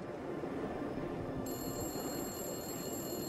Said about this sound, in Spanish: Luego, a la 1:15 de la mañana, el teléfono público comenzó a sonar. Como habían sospechado los investigadores, uno de los secuestradores volvió a llamar ansioso por obtener el rescate.